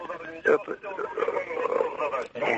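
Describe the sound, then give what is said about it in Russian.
A radio plays steadily in the caller's room, heard in the background of a phone line, its voices and music thin and muffled, running continuously for a few seconds at moderate loudness. “Радио потише. А, да, радио.”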